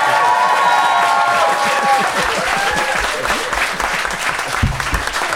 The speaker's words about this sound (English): If you think Dan and Ben made the best case, please applaud now.